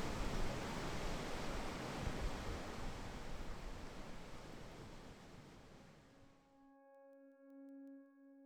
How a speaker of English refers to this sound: I'm sitting at the point where the little peninsula drops off into the sea. I'd be about 10 to 15 metres above the water.